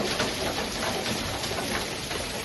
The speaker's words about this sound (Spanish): Así caía piedra de considerable tamaño, en este caso en Vilafranca, además dejando precipitaciones acumuladas en la tarde del domingo, próximas, no estaba previsto que fuese tanto, en torno a los 30 litros por metro cuadrado.